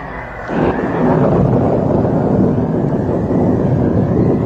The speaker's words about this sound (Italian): La tempesta, come vedete, è già scoppiata e i poveri marinai naturalmente moriranno annegati.